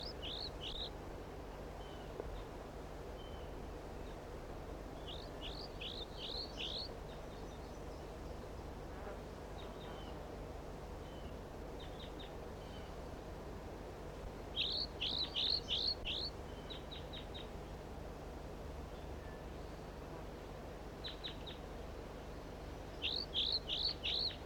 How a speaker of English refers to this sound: The recording, it's 30 seconds later, and the situation is the same. The juvenile is singing like this, and one of the birds is perhaps down, and 4-3 calls intermittently.